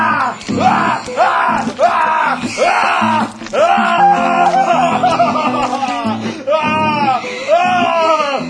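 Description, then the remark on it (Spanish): A pig screams loudly while being slaughtered by stabbing, a rapid series of shrill, harsh squeals that repeat almost without pause for several seconds, with no speech. “Verán que el cerdo tiende a pegar unos gritos.”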